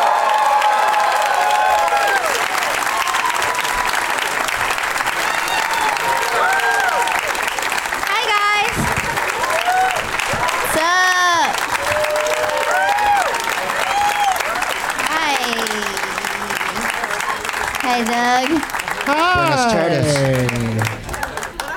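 A crowd at a show in San Francisco applauds as three guests are introduced, with steady, dense, continuous clapping mixed with whoops and cheering shouts rising over it, sustained loudly for about twenty seconds before starting to taper.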